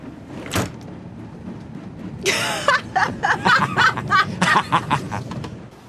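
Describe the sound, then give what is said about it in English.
A sharp click, then a train carriage door slides along its runner and shuts with a rattling thud, followed by a string of short, uneven clattering bursts. “The man takes the autograph and backs out of the carriage, shutting the door.”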